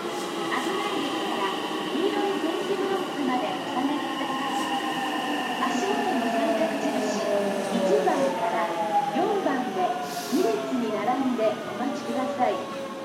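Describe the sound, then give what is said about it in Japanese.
A four-car rapid-service electric train pulls into platform 1 of a station, its electric motors whining in steadily falling tones as it slows, over a continuous heavy rumble of wheels on the rails. “1番線に電車が到着します。”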